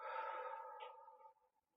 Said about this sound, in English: Try breathing in for 6 or 7 seconds with me. And then breathing out for longer.